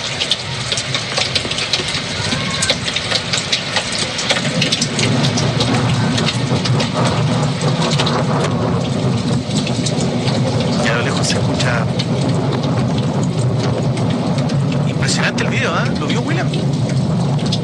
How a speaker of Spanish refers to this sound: Ahí se escucha parte de la precipitación. Esto es como que estamos esperando que llegue la tormenta eléctrica. Ahí la estamos viendo. Ahí se logra escuchar.